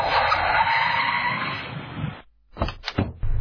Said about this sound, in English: And with that, the car screeches to a halt as they arrive at their destination.